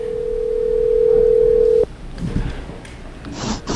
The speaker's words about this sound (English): Let's see if he picks up his walkie-talkie. Should be ringing.